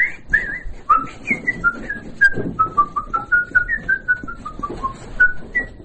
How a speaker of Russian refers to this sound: А так и по улице хожу, так я все насвистываю, что-нибудь. На балкон выйду, тоже все.